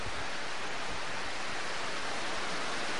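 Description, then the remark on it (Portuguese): Rain falls in a steady, dense hiss that stays even and unbroken for the whole stretch, with no voices over it. “Eu temia essa chuva nesse horário.”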